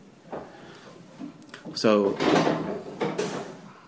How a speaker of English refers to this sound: Can you close the door, please?